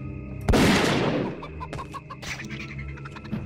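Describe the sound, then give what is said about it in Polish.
A loud, sharp bang is followed by a chicken clucking in a series of short, choppy bursts, with no talking. “Jest... Kurczak.”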